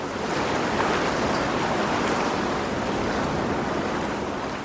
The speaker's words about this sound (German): Jetzt hört man langsam ein bisschen Wasser und man hört vor allem weniger. Ja, genau. Also das war das erste Mal, dass ich nicht im Hintergrund Sirenen, Autos hupen, Menschen schreien.